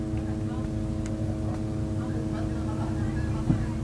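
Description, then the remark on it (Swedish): A steady, droning buzz of Israeli military drones overhead above a family garden with fig and lemon trees, holding an even pitch and level throughout, with a faint outdoor background and a brief soft knock near the end. “Men ovanför hörs surret från israeliska drönare.”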